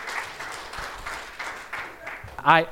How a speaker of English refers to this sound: You can clap if we're going to clap. Clap.